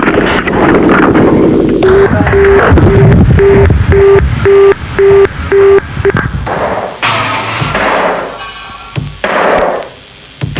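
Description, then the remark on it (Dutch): A telephone busy tone after a call is hung up: about eight short, evenly spaced beeps at a steady pitch, heard over loud, blustery wind noise that carries on after the tone stops. “Ja, ik moet de telefoon inleggen, wordt me gezegd, dus dat doe ik maar even.”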